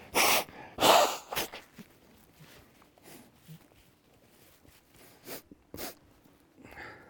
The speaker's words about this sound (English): I'm going to have to blow my nose. I'm very sorry. So I'm going to ask you to turn off the mic for a second.